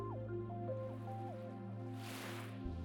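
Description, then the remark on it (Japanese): Underwater bubbling in a dim deep sea over a deep, steady rumble, with small gurgling bubbles popping and sliding in pitch, then a soft rushing swell of water near the end. No one speaks. “あなたの耳には泡の音と私の声だけが響き渡る。”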